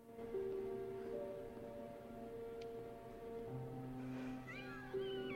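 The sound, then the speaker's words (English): High, wavering kitten meows rise and fall near the end, over a steady, sustained humming tone that fills the background throughout. The kittens are on a bed at Grey Gardens, being stroked on a woman's lap. “At Grey Gardens, Big Edie's on the bed stroking kittens on her lap.”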